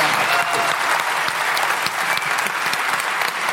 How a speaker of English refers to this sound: So I would have a huge round of applause for some really inspiring and very generous speakers.